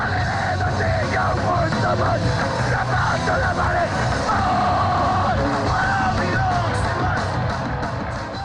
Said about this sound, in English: The packed crowd goes crazy.